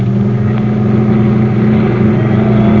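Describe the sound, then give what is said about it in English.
A steady, loud engine drone with strong low harmonic bands as a vehicle runs hard, accelerating to go after a car up ahead, with no voices present. “Hey, there's a car up ahead. Go ahead, after it.”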